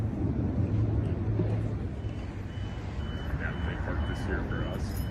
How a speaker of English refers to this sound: Out here at the Maricopa Elections Office, more Penske trucks coming in, apparently delivering ballots.